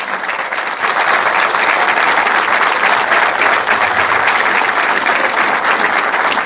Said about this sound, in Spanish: Son ellos los que verdaderamente pusieron el hombro para que hoy ustedes puedan tener nada más y nada menos que su primera casa, su primera vivienda. Así que les quiero un fuerte aplauso para todas esas personas que trabajaron.